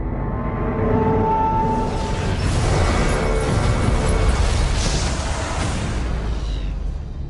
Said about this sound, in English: Crashing sounds and symphonic rock music. Inception-esque.